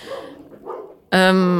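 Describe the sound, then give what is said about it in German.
A dog named Snoopy lets out a single loud, drawn-out bark, cutting in abruptly after a second of quiet, muffled background sound and ringing on until the end. “Mensch, die Hunde, Entschuldigung. Der Snoopy, der bellt immer so rum.”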